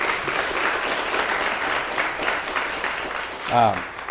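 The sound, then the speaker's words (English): A church audience claps steadily in a dense, continuous round of applause to welcome a family back into church membership, with a brief voice rising above the clapping near the end. “And so if we are in agreement to welcome them back into membership of our church, if you would just give a round of applause, please.”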